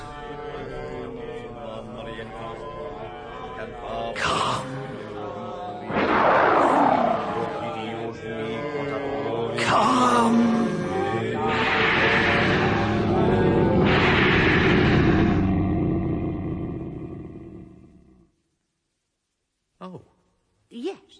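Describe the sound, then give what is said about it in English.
A monstrous, dragon-like roaring rises and falls in several long, loud, growling bursts with rumbling low tones, then cuts to silence broken by a couple of brief knocks. “Come, dragon, come. Your master summons you.”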